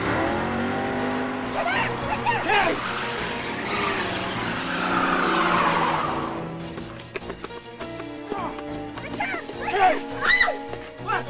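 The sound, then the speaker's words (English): A car engine revs hard as tires squeal through a sharp skidding handbrake turn on the road outside a school for several seconds, then the noise drops away into a busier mix of clattering and motor sounds. “He does a handbrake turn.”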